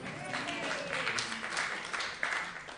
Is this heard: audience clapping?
yes